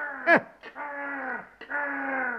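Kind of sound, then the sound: bird, raven cawing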